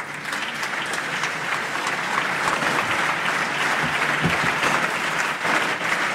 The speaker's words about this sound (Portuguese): Primeiro, grande aplauso para António Costa.